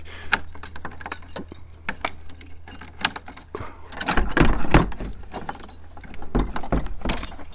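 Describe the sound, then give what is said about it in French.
Keys jangle and scrape in a security lock of an old double-leaf door, opening in top and bottom halves, of a locature dwelling, with sharp metallic clicks scattered through, then heavier clunks and rattles as the bolt turns and the door is worked open. “Eh bien, on va rentrer dans la locature, avec une porte à double battant, hein, le haut et le bas, comme ça se faisait à l'époque. La serrure de sécurité.”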